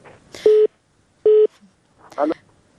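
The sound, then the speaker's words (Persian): Two steady, identical telephone beeps sound about a second apart as a caller's line drops during a phone-in with a doctor, followed by a brief burst of muffled, garbled line noise. “تماسشان فکر میکنم قطع شد.”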